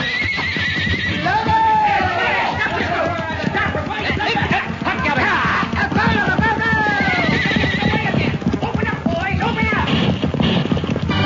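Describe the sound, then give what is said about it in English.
A horse whinnies several times, shrill, over a steady clatter of hooves clip-clopping, with voices mixed into the busy, loud scene. “Run for your horse, Pancho.”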